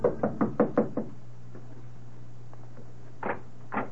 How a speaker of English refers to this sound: Hurrying up the steps, she knocks on the door.